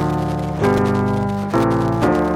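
A short Dorian-mode passage in an epic biblical-film style, played on a sustained keyboard or synth: rich held chords shift three times in a slow, solemn progression, loud, with no voices.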